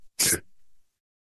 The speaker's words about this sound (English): Hang on a second. I gotta sneeze again. Okay.